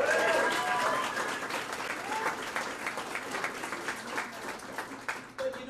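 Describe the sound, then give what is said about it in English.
A crowd bursts into loud, sustained applause, dense clapping that stays strong for several seconds before slowly thinning, with a few cheers and whistles rising over it early on. “Better than applause?”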